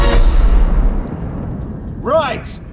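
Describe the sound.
A cannon, its fuse lit, fires with one loud, sharp boom, its deep rumble slowly fading over a second or two before a short voice rises briefly at the end.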